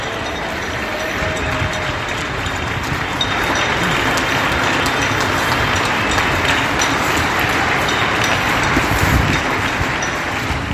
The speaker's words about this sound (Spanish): Por eso, desde COPE Vigo, recogemos el aplauso que en las últimas horas los vecinos de Vigo ofrecían a este colectivo desde sus balcones.